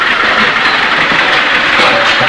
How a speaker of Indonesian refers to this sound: Berisik ya, itu apa sih? Lagi bikin jalan. Oh, mesin giling.